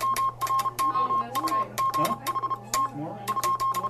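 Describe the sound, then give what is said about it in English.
The last maritime Morse code telegraph message, sent July 12, 1999, beeps out in a steady, mid-high tone, keyed in quick short and long bursts, over crackling static clicks and faint murmuring voices underneath. “On that day, July 12th, 1999, the Morse operators who tapped out these signals for years, even decades, gathered to say goodbye.”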